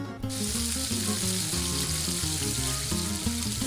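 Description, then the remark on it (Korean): Finely chopped fatty parts of meat hit a hot frying pan and are stirred evenly while frying, bursting into a loud, steady sizzle that crackles continuously to the end, with light background music playing underneath. “뜨겁게 달군 프라이팬에 기름기 있는 부분을 넣고 골고루 휘저어가며 볶은 다음 그릇에 담아둔다.”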